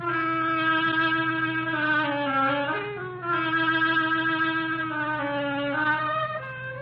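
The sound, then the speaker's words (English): An oboe plays the duck's theme, a slow, reedy mid-pitched melody of long sustained notes with a brief break partway, over a steady low held tone. No one speaks. “The duck by an oboe.”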